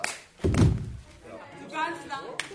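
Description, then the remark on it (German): A single loud stage slap to the face lands with a heavy smack as one girl slaps another during a rehearsal on a rehearsal stage of the Cologne Opera, then people's voices carry on talking after it. “Dann holt die eine aus und gibt der anderen eine schallende Ohrfeige.”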